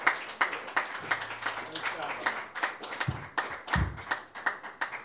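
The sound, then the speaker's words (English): A crowd claps steadily, a dense patter of many hands with sharp bursts, joined briefly by low thumps and a murmur of voices underneath. “Okay, have a round of applause for them.”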